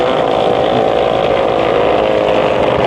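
The engine of a large, very fast speedboat roars loudly and steadily as it crosses near another boat, a dense, continuous motor drone with no speech over it for the whole few seconds.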